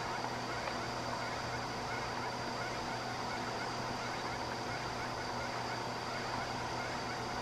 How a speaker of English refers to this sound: I saw a swan today.